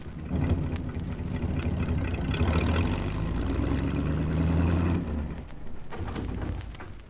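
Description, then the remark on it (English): A car engine runs loud, a steady low rumble that swells as the car pulls onto the road, then drops off abruptly after about five seconds, leaving a fainter rumble. “I'll just get the car on the road.”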